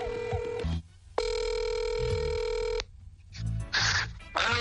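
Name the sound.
telephone ringing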